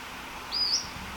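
A single brief, high-pitched bird call: a thin whistled chirp lasting about a third of a second with a slight upward sweep, heard alone over faint steady background hiss.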